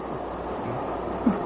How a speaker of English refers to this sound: Have you considered the speed at which our train is rushing through the night? Look, look, already we're past Hawley. We're close to Red Hill.